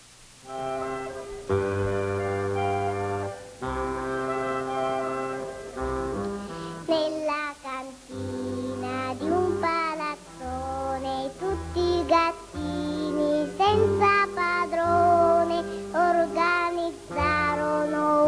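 A cheerful children's song, played as a birthday dedication for a four-year-old boy, plays loudly and continuously, with young-sounding voices singing over bouncy instrumental accompaniment and a steady, lively rhythm throughout.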